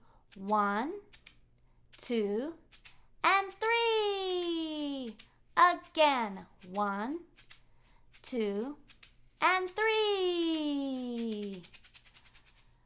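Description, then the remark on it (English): Maracas shake in quick, crisp rattling bursts throughout, sharp and steady, growing into a fast regular rhythm toward the end while a voice counts aloud in a sing-song way over them. “So keep your maracas going and listen for your part.”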